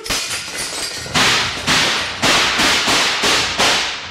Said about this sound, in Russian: Вспышки выстрелов прорезали тюремный мрак, и сразу стало тихо.